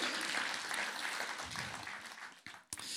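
A round of applause from a crowd: dense, steady clapping that holds for a couple of seconds, then thins and fades, with a last brief burst of claps at the end.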